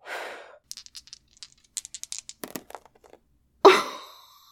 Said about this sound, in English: Come on, dice, be good to me. I'm going to blow on them for good luck.